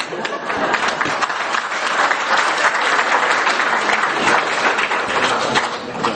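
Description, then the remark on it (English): An audience at a speech applauds steadily for several seconds, many hands clapping at once in a dense, even wash of sound that stays loud throughout. “You can clap so I can have a drink of water.”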